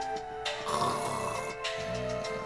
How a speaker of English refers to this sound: Loot, already deep asleep, snored loudly. He's fast asleep.